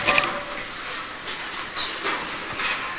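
A train rolls steadily on heavy iron wheels, a continuous hissing rumble with faint rhythmic surges every half second or so, no voices over it.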